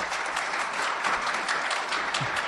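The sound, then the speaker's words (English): An audience claps steadily to vote that landfill is the fiction: a dense wash of many hands at an even, moderately loud level with no voices standing out, sustained throughout. “So who thinks landfill is fiction? Quickly, applause.”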